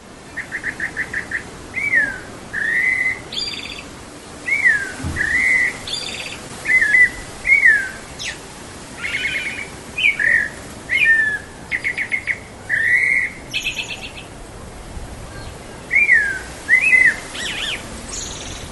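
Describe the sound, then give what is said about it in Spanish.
A thrush known as zorzal or mirlo, Turdus rufopalliatus, sings in the city: a steady series of clear, varied whistled phrases, each short and separated by brief pauses, loud over a soft background hiss, with no one talking. “Por ejemplo, este es el paisaje sonoro de un ave que es conocido como zorzal o mirlo, de acuerdo a lo que nos dijo la bióloga Sandra Gallo una vez que lo publiqué en internet, y suena de esta manera.”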